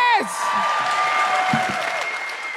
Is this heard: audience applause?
yes